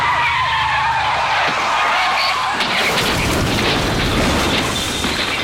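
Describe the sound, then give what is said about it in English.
A suspect's Nissan, pursued by police, loses control with a long, loud tire screech, then rolls over and over in a harsh, rumbling crash of tumbling metal and scraping that continues to the end, ending as twisted metal. “Amazingly, the homeowner captures the heart-stopping action as the car loses control. It rolls over and over, finally resting in a heap of twisted metal.”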